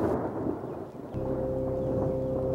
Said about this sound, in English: Sound, Crash of Thunder.